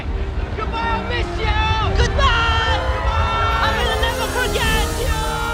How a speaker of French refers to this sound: Autour d'eux, une gigantesque foule de personnes nous disent adieu et bon voyage. Ça y est, le bateau commence à avancer. La foule commence à devenir de plus en plus petite jusqu'à disparaître.